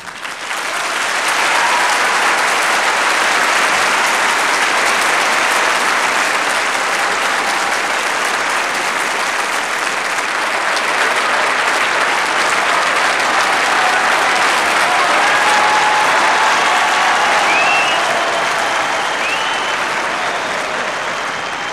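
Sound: concert audience applause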